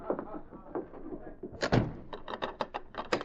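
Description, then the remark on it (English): A door shuts with a solid thud behind a man entering a room, followed by a quick run of sharp metallic clicks as a bolt is worked into place. Faint murmuring precedes the slam. “As the bolt clicked behind him, the sergeant noticed another door on the far side of the room, a door that led to the outside.”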